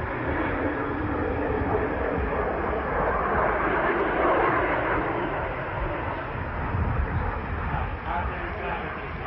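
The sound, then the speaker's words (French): An airplane landing after its long-awaited first flight, opening its brake parachute: a loud, steady engine roar with a broad rushing rumble that holds fairly even throughout, swelling slightly in the middle before settling. “Il atterrit. Il va atterrir.”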